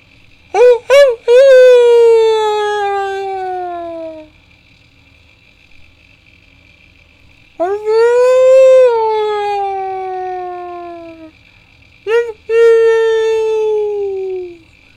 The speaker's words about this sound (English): A single high howl cut the silence. It was a lonely call until it wasn't, until a dozen other voices all joined in, a chorus of gathering wolves.